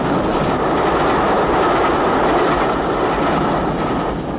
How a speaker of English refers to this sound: Seizing the bridge's supports, Superman presses up, up, until the tracks level. Superman holds the bridge rigid until the train passes over.